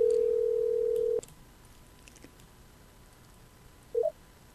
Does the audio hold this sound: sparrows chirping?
no